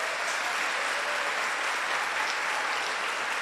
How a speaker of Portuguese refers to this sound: Nós temos nessa igreja voluntários, eles estão sempre por aí, de colete. Eu quero pedir uma salva de palmas para eles.